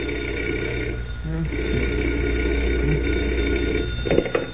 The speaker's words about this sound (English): But that certainly didn't mean the end of adventures for Superman, because at 5 o'clock the following morning, Clark Kent was roused from bed by the sound of a telephone ringing.